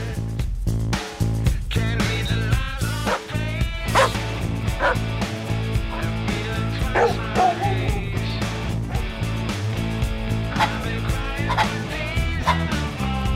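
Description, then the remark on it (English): Dogs bark and yip repeatedly in a quick, steady rhythm over continuous music, the barks loud throughout. “The dogs are digging the tune.”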